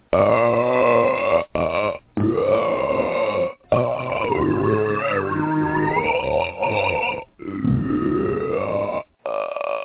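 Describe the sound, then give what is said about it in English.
A string of long, loud, rumbling burps, one after another with brief pauses between them, resonant with a gurgling, drawn-out tone. “This is a test of the emergency burping system.”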